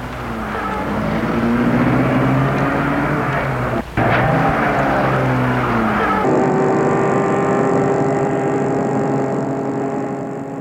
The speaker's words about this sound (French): Et met la voiture en route.